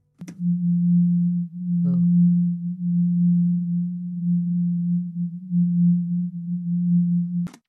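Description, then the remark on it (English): A low, steady hum tone drones for several seconds, its loudness dipping slightly at moments so it seems to pulse faintly. A brief rasp cuts in early, with clicks at start and end. “Remember, Yvonne does say that the hum feels like a pulse.”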